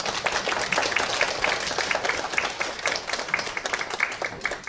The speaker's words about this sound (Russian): Они радуются, они сегодня будут петь для вас, они очень ждут вашего участия, ваших аплодисментов. Давайте их поддержим прямо сейчас.